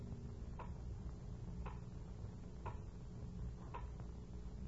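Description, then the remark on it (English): A clock ticks steadily, about one tick per second, crisp over a low, continuous room hum, with no voices. “No sound but the clock.”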